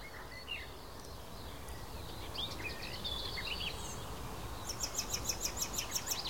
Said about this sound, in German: Das klang auf wie eine aufliegende Amsel so ein bisschen.